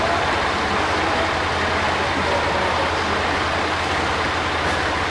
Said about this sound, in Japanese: 2番乗り場に列車が入ります。ご注意ください。